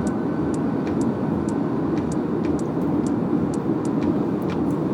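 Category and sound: vehicle, car driving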